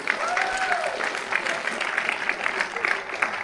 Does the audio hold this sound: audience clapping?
yes